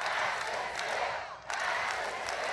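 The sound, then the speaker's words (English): A crowd of supporters at an outdoor rally for President Obama cheers his call for Congress to pass his jobs bill, a steady, dense wash of voices, briefly dipping before swelling back up, with no single voice standing out. “At an outdoor rally in Ohio this week, as in North Carolina today, cheering supporters quickly took up his call for Congress to pass this bill.”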